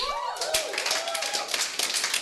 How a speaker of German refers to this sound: Ey, wir brauchen noch einmal Jubel, bitte.